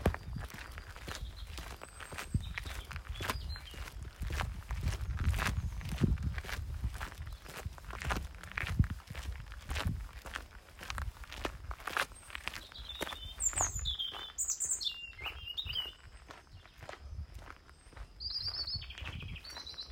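Steady footsteps crunch along an outdoor trail amid vegetation in a regular walking rhythm, in fair weather that is starting to turn hot, while birds chirp and tweet faintly in the background. No one speaks.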